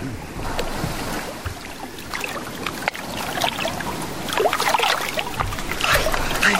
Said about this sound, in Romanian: Dragii mei, eu cobor din barcă.